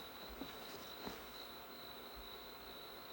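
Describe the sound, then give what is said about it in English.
Crickets chirp in a steady, continuous high trill at night, fairly quiet and constant, with a couple of faint soft knocks early on and no one speaking. “Well, at least the crickets won't fall asleep.”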